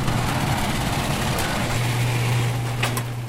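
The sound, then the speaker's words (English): A giant old garage door in a two-story red brick building, opened by punching in a code, grinds open with a steady, loud motorized hum and rattling mechanical noise that continues without pause throughout, with no voices. “Albritton punches in the code for the giant old garage door.”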